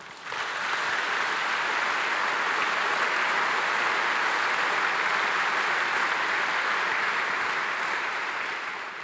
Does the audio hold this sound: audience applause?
yes